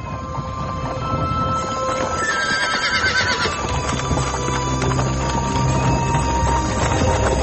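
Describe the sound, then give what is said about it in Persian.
A carriage horse, pulling a carriage with its driver on a stormy night, gives a high, wavering neigh while its hooves clip-clop in a steady, quick rhythm, with a constant rumbling, rattling background throughout. No one speaks. “اونا با گادیشان در یک شب طوفانی به کمک رانندهشان به خوبی برای خود ادامه دادن.”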